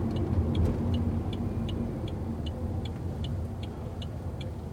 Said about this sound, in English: A lot of traffic. Look at all these cars. They're all going down to... I don't know where they're going. Lenox. I haven't seen that much traffic down in here this time of day.